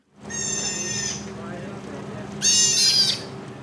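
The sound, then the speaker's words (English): A group of sea otters at an aquarium at Monterey Bay, California, squealing: two shrill, piercing calls, each lasting under a second with a pause between, the second one louder, over a steady low hum. “Sea otters. Pretty cute, right? That group is at an aquarium at Monterey Bay, California.”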